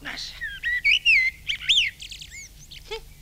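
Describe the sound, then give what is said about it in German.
A male blackbird, recorded at a lilac bush while the female broods, sings a rich, fluting phrase of varied whistles and warbles, clear, ending in a few quick higher twitters with no other sounds. “Frau Amsel brütet bereits und ihr Mann singt für sie die hübschesten Lieder.”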